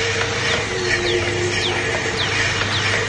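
Birds in a nature simulation sing in a series of quick descending chirps every half second or so, over a steady low background hum. No one speaks.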